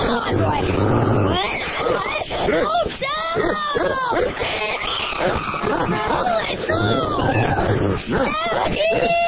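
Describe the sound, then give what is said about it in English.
A cat yowls loudly, a string of drawn-out, wavering wails that rise and fall in pitch with barely a pause across the whole stretch. “Just keep him away from that cat.”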